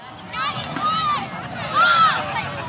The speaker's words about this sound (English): It's a Saturday afternoon in Golden Gate Park, and a handful of kids are taking turns sending a little white stomp rocket into the gray San Francisco sky. It arcs up, then sails back down to this small meadow at the northern edge of the park